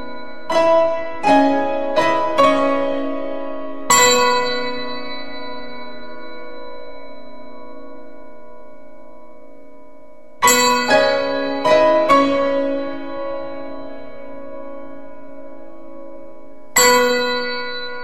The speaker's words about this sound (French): deux crotales, les petites cymbales antiques et quatre pianos et donc quatre pianistes